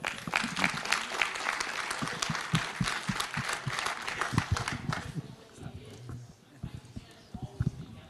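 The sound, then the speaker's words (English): An audience applauds a speaker after a talk on the right to digital integrity, with dense, crackling clapping that holds steady for about five seconds, then thins out into a few scattered claps and low murmuring. “Another warm applause, please.”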